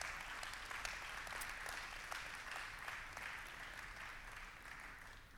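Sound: audience hand clapping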